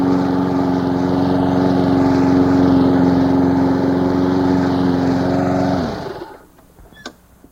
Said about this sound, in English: As you get behind your lawnmower this weekend and you regret that birdsong is drowned out by engine noise, there is an alternative.